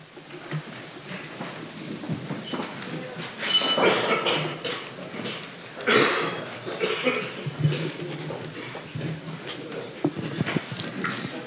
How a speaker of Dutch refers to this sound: Het wordt het avondje wel als ik de mensen in de raad en ikzelf zie hoe wij al hoestend aan deze vergadering beginnen.